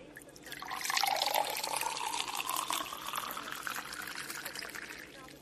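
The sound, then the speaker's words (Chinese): Wine, a 1982 Lafite, pours steadily into a glass for several seconds, a continuous gurgling splash that rises slightly in pitch as the glass fills, with no talking over it. “这是一瓶82年的拉菲，是不错的珍品哦。想要和我一起喝吗？”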